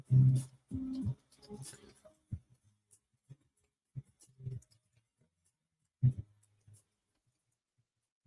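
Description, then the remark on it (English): Soft, irregular taps and clicks of someone typing a post on a phone screen, spaced out with pauses, after a brief burst of murmured voice at the start. “I'm just typing this for Instagram.”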